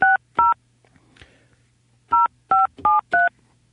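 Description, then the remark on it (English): Touch-tone telephone keypad beeps while dialing a call to Fishbones Bait and Tackle: two quick dual-tone presses, a short pause, then four more in a steady rhythm. The tones are clear, with only a faint low hum between them and no voices. “Let's see who's on the line. I think we'll call Bud.”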